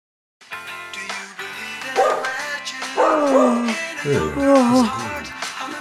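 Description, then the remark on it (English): A dog vocalizes, with sharp barks and yips that slide into drawn-out, whining cries, repeating over several seconds with no one talking. “You gotta walk the dog. Can you take him? He needs a walk.”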